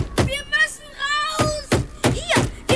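A door with a board nailed across it is shoved and rattled by people trying to get out, giving four loud thumps at uneven intervals, with strained, creaking tones sounding between the knocks.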